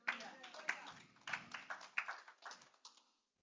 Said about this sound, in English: Give God the hand clap.